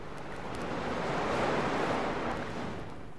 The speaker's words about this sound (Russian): Вот оно море. Я вижу его через окошко своего ящика.